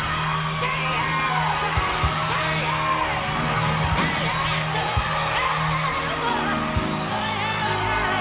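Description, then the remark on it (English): Loud, impassioned shouting and whooping fill a lively church hall, a fervent voice rising over a noisy, responsive audience in a continuous, echoing wash of sound. “Listen, Brother Deacon, if I can't shout in your church, hold my mule. I'm going to shout right there.”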